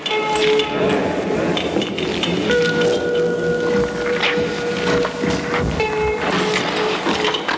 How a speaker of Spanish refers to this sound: Parte de esta historia me la contó un joven tembloroso que insistía en que ha estado lloviendo durante años, incluso puertas adentro. Caen chuzos de punta, dijo.